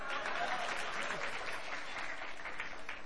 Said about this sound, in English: Clap for that, sister.